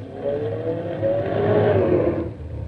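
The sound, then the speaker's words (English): A car engine hums and revs steadily while the vehicle moves during a driving test, as the driver tries to park between two cars, its pitch rising and falling slightly before easing off near the end. No one speaks over it. “That's why I told you to park the car between those two cars.”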